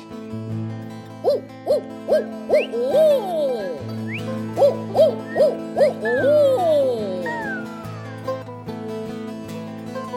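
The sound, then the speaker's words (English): Several audience members imitate bird calls with their voices, giving quick owl-like hoots and rising whistles in two rhythmic bursts over a steady, sustained musical drone, as the performer points at them during a song. “When I point at you, I need bird calls.”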